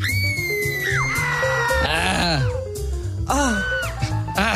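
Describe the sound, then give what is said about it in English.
A loud, continuous scream sound effect played from a soundboard, with rising and falling pitch, layered wails over a steady low rumble, lasting several seconds without pause. “Dude, just nonstop all night with that screaming, dude.”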